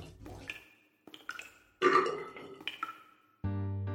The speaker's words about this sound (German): Als auch Legas Ferse geschluckt war, glaubte Steni ein kräftiges, lautes Schmatzen zu hören, dem ein satter, tiefer Rülpser folgte.